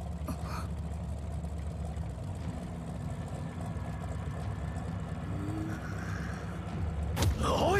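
A motorboat engine idles steadily with a low, throbbing drone, constant, rising slightly near the end with a brief sweeping noise, as the boat is stopped among grass.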